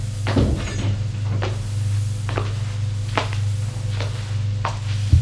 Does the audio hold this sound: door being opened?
yes